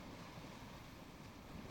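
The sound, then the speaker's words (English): A steady, broad rush of ocean surf on a beach, washing continuously without a clear break, with a faint windy hiss mixed in and no voices. “Nothing but sand and sea for miles.”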